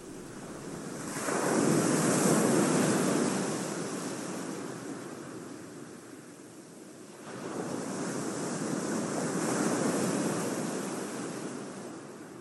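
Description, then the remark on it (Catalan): Sea waves break on a beach in two broad rushing surges, each swelling loud then washing back into a softer hiss, with steady wind noise underneath and no voices. “Relaxeu-vos uns instants amb la banda sonora del mar.”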